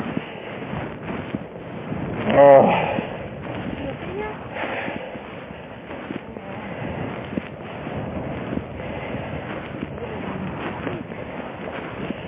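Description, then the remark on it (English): Wind buffets a microphone in a steady, rumbling rush, with one louder gust swelling near the start. Indistinct voices sit faintly beneath the blustery noise. “It's a little windy. We're catching a little wind.”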